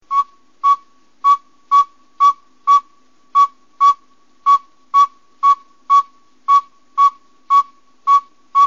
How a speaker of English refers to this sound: this is a very small owl, and we're really lucky to have it because it likes to give its a distinctive call about 3 to 4 o'clock in the morning. And I've always called it the backup bird. If you listen to the sound, I'm sure you'll understand why.